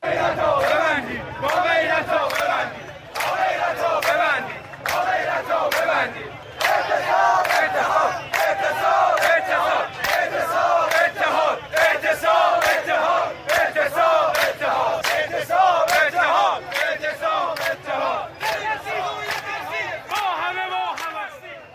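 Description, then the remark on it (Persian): A large crowd of protesters at a rally in Baharestan Square, Tehran, protesting recent price rises, chants slogans together in loud, rhythmic unison, the voices swelling and falling with each phrase, while sharp beats punctuate the chant steadily throughout. “کسبه بازار تهران روز دوشنبه در اعتراض به گرانی‌های اخیر مغازه‌های خود را بستند و شماری از معترضان در میدان بهارستان دست به تجمع زدند.”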